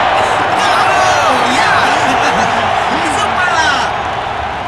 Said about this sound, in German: Deswegen bitte ich um großen Applaus für Michael Blender.